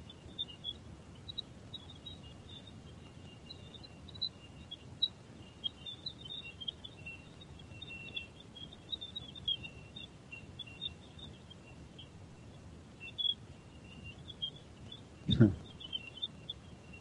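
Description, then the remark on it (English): Radio emissions from Jupiter rendered as sound: a steady rushing hiss like distant surf, dotted with faint, rapid bird-like chirps and twitters, plus a brief sweeping whoosh near the end. “But it's actually Jupiter. Radio waves from Jupiter.”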